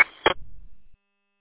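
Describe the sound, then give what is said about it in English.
A short electronic radio roger beep sounds as the transmitter is unkeyed, followed at once by a brief crackling burst of static and a low fading hiss before the transmission cuts to silence. “Roger, yeah, it sounds like a Roger beep or something.”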